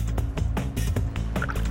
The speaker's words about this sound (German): Hinten läuft das Wasser noch so raus. Ey, krass. Guck mal, wie da überall noch Wasser rausfließt. Krass, jetzt habt ihr echt dieses Auto aus dem Fluss rausgezogen.